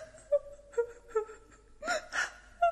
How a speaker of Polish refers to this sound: Wyraźnie dziecko płacze.